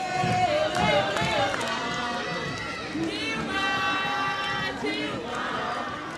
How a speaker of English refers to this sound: On one narrow street in one poor district of this huge city, the crowd cried out for Dilma Rousseff.